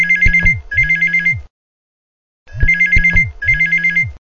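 A telephone rings in the classic double-ring cadence, two short trilling bursts, a pause, then two more, loud with no voices.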